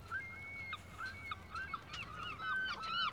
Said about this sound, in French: C'était très beau, ces mots, emportés par le vent, le rire des mouettes.